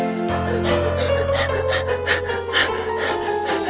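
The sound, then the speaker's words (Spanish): Heavy, rapid panting breaths repeat in a steady rhythm, fairly loud, from an exhausted hare gasping for air as it reaches the finish line of a race, with a low hum underneath. “En esos momentos, Ruperto la liebre llegaba jadeante a la meta.”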